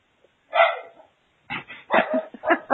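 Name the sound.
dogs barking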